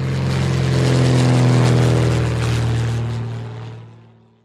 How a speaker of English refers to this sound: Buzz the plane. The plane is coming in.